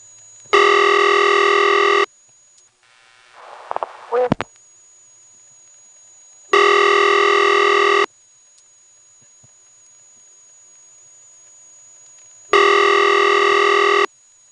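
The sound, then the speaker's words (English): A telephone line tone sounds in three loud, buzzy bursts of about a second and a half, spaced roughly six seconds apart, with a brief chirping click between the first two, as the trunk equipment returns the line to a dial tone after a disconnected-number recording. “Eventually, I will let the recording play to the end, and at that point, the trunk equipment will dump us back to a dial tone.”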